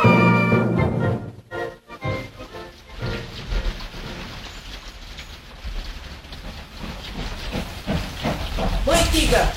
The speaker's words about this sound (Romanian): Sunt curios să văd și eu trenurile care trec prin gara noastră.